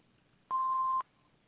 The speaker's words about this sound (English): Please leave your name, message, and number after the beep.